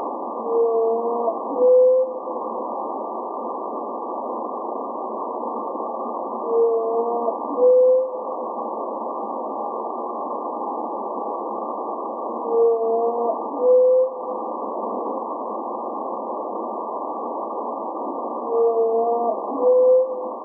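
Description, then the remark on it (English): Whale song sped up 20 times to be audible to human ears: a short, rising tonal call repeats about every six seconds over a steady, muffled hiss, each call paired with a fainter, lower tone just before it. “Here's a listen to the new whale song, sped up 20 times so that it's more audible to human ears.”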